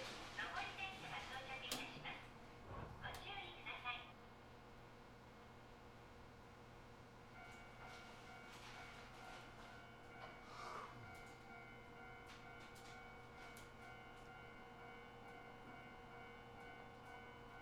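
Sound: train passing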